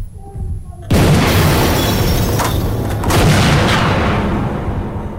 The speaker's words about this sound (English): Lagonda raises his gun and fires, shattering a car window.